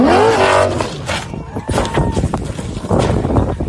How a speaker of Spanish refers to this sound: Fernando Alonso en los primeros kilómetros de la etapa hacia una duna que va con unos cuantos fotógrafos. El coche sale volando y vueltas de campana.